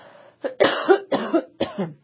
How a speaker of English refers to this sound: So, and the coughing, I'm really phlegmy today. Boy, this is going to be a phlegmy show.